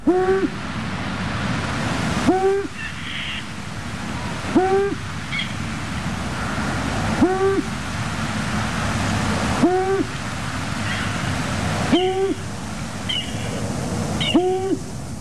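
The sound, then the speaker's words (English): A long-eared owl's low, moaning hoots, its late winter song, repeat about every two to three seconds, steady, over a continuous rushing background like wind or surf. “It's the long-eared owl. The long-eared owl prefers conifers, but where it's common, it can also be found in broad-leaved woods and copses.”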